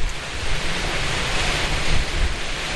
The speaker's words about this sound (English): And now I'm going to have a look at this waterfall and see what I can do. There's a little wooden bridge in front of it,